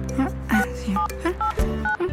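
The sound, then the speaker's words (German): Telephone keypad tones as someone dials a phone call: a quick series of short, clear two-note beeps, one per key press, over a low background hum with no talking. “willst du Freya anrufen? Wir haben doch jetzt eine Antwort.”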